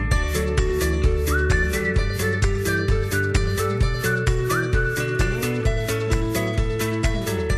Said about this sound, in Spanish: Me encanta porque suena el silbidito